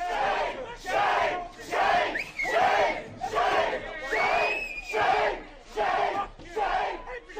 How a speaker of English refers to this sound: The sounds of protesters at the New School this week.